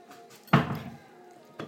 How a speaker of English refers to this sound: quite thick bread, and I have trouble getting the sandwich toaster to even shut. Move it in a bit there. I'm sure I'm going to snap it one of these days, trying to force it shut.